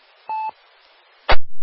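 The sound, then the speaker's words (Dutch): A radio repeater courtesy beep heard during a radio net round: one short, steady mid-pitched tone over faint hiss, followed about a second later by a loud crash of static that quickly fades. No one speaks. “waarom komt dat elke keer zo'n piep tijdens de ronde?”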